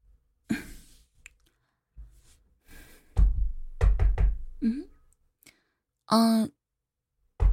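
Several firm knocks on the door of room 7 in a quick uneven cluster, preceded by a couple of softer taps and followed by a brief vocal sound.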